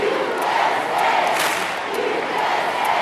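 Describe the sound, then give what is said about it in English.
A big crowd of American fans chants "USA" in unison at a women's match in Reims, France, a loud, steady roar of many voices with a rhythmic rise and fall running through it and no pause. “His son is screaming, USA, along with the American fans.”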